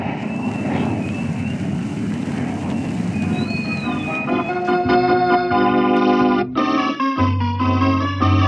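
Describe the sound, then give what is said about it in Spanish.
A loud, steady roar of seaplane jet engines flying overhead, with a thin rising whine, runs for about four seconds, then gives way to sustained, droning musical chords; no one speaks. “Los puntos se agrandan y se precisan hasta que se deja escuchar el rumor de motores de jets.”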